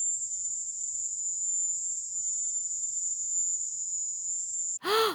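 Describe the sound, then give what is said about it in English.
A recording of a sound heard in Havana, Cuba: a loud, piercing, high-pitched electronic whine drones steadily for nearly five seconds, shrill and cricket-like with a faint pulsing texture. It cuts off abruptly as a voice begins. “And so all of the sounds differed, but people who heard them in Havana agreed that they all contained an aspect of a high cricket sound.”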